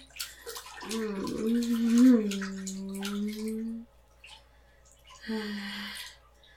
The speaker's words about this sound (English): I hope y'all can hear that over like the running water sounds